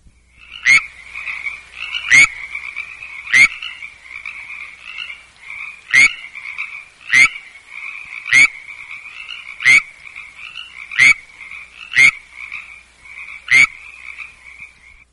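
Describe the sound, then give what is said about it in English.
Frog mating calls in Setanac Canyon, eastern San Diego County, California: about ten sharp, loud calls at fairly regular intervals, with a Pacific tree frog's steady, buzzing chorus running continuously in the background. No voices. “Here in Setanac Canyon in eastern San Diego County, California, it's heard with a Pacific tree frog in the background.”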